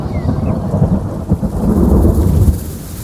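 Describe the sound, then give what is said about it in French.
A summer rain shower: a steady, heavy downpour hisses and drums continuously, with a deep rolling rumble of thunder underneath, loud throughout. “Averse d'été, la pluie bat sur la tête des carpes.”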